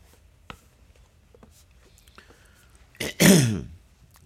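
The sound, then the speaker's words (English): A person clears their throat with a rough, rasping burst after a few faint clicks and breaths, sounding strained as if struggling to swallow. No talking. “Sorry, still having trouble swallowing.”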